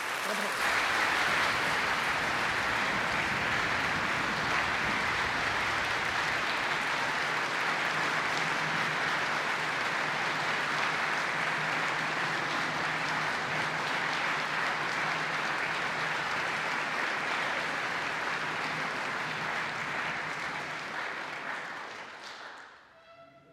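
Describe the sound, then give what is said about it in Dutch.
Sustained, dense applause from an audience on Goeree-Overflakkee for a musical leader, steady and loud for over twenty seconds before tapering off quickly at the end. “En ik vraag nogmaals een hartelijk applaus voor deze muzikale leider.”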